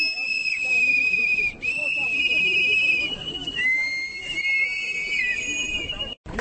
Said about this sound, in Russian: Митингующие после соревнования повернулись лицом к Пражскому граду, начали свистеть и выкрикивать лозунги.